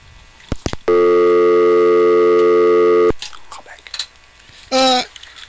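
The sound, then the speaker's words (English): A loud, steady electronic phone-line tone from a failed call holds for about two seconds after a couple of sharp clicks, then cuts off; faint rustles follow before a brief second burst of tone. “For some reason, the phone wasn't working there.”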